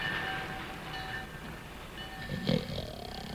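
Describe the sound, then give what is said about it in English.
Railroad station ambience on the outskirts of town in the Frosty story, with a steady low rumble, faint high squealing tones, and a louder clank or burst of noise about two-thirds through, with no one speaking. “On the outskirts of town, Frosty and the kids march in single file to a railroad station.”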